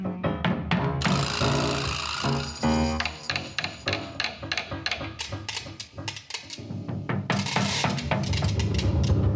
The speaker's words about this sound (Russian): Весь следующий день летчик ремонтировал мотор самолета.